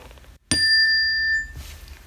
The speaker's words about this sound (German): Es läutet an der Tür.